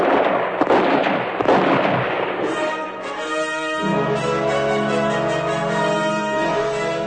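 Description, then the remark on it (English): Several sharp, loud gunshot cracks, fired at a rider fleeing on a sorrel horse along a riverbank, ring out in quick succession over the first few seconds, then give way to sustained, droning tonal music with no further shots. “Leroy charged the sorrel up and down the riverbank, never quite feeling secure, until he heard the last round plunk into the water out of range.”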